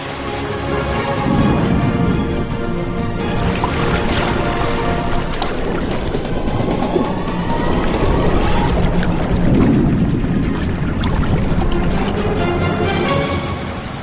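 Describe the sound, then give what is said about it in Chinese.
Water splashes and churns steadily for the whole stretch as people tread water hard while closing a net to catch flying fish, with a few louder surges and a faint rush of wind underneath; no one speaks. “奋力踩水，收起网口，依靠口袋战术和默契配合，才能有可观的收获。”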